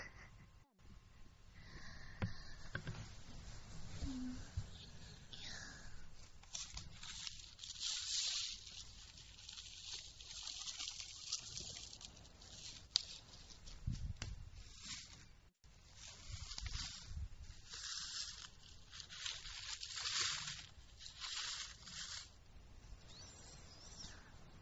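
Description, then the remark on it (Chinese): Soft, continuous bubbling with irregular fizzy, hissing bursts that rise and fall in strength throughout, heard alone without any talking. “能感听到冒泡的声音啊。”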